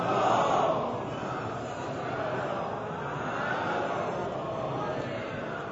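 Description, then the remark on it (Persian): A crowd of voices recites salawat together in unison to close a religious talk, a dense, steady murmur of collective recitation that swells slightly at the start and holds at a fairly loud, even level throughout. “صلواتی ختم کنید.”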